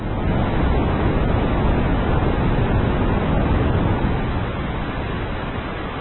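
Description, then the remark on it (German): Steady synthesized noise with its red-blue balance being adjusted, a dense rushing hiss weighted toward the low end and cut off above the upper mids, its balance and level shifting slightly near the end. No voices. “Einstellung des Rot-Blau-Anteiles.”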